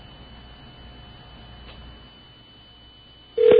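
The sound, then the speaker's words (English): Quiet telephone line hiss with faint ticking for a few seconds while a call to Sprint PCS customer service connects, then a loud, steady electronic tone suddenly cuts in at the end. “Hold while we connect your call.”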